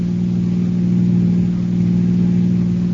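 A car engine hums loudly and steadily as the car crosses the border with police closing in, a continuous mid-pitched drone with no clear rise in pitch and no voices over it.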